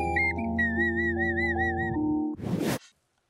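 A person whistles a short, wavering tune for about two seconds over a low steady hum, followed by a brief burst of breathy noise before silence.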